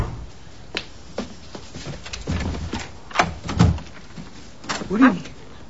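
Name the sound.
door being opened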